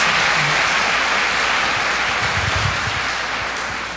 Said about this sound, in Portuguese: Vamos dar uma salva de palmas a Jesus, que faz essas coisas lindas em nosso meio.